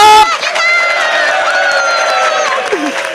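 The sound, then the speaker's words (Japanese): A crowd of voices yells and cheers loudly in a sustained, unbroken roar for a few seconds, lively, with individual shouts rising and falling in pitch: the audience at a live public recording at the Nakano Anime Culture Festival. “さあこのドス黒い声援をですね今日は受けながら、番組に入っていきたいと思いますので最後までよろしくお願いします。”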